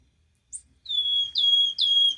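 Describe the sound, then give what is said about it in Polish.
A wood warbler sings a short high note followed by three clear, descending piping whistles in quick succession, loud against a quiet background. “Także to jest właśnie nasza cudowna świstunka.”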